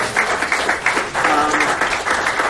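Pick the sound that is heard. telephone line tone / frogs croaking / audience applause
audience applause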